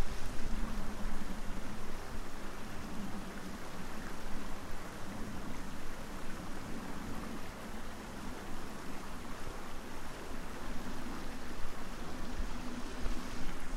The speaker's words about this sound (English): I guess you can hear the plane now.